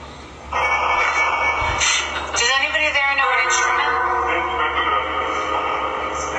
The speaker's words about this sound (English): We had a Phasma box going, which is... It's a piece of equipment that kind of scans radio stations, and you're listening for... Oh, you're trying to pick up frequencies? Frequencies, like hear voices.